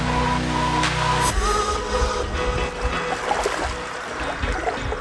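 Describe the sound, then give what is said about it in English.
Calm ocean water laps and sloshes gently in a steady, irregular wash at 6:20 a.m. on a 3 to 4 degree March morning, following a brief held musical tone that cuts off in the first second. “The ocean is calm, but it's a bitey 3 to 4 degrees this morning.”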